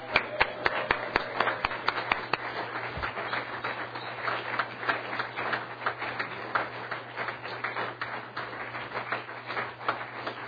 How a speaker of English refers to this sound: And it's the governor's endowed executive and rural councils. If they would please rise and let's give them an applause.